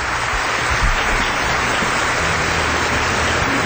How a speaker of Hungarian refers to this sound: Hát azért csak felgerjed az a taps nagy nehezen.